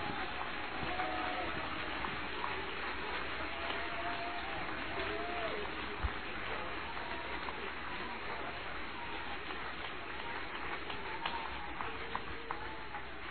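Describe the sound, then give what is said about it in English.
An audience applauds steadily for over ten seconds, a dense, even wash of clapping with faint sustained tones and murmuring voices underneath. “Come on, applause.”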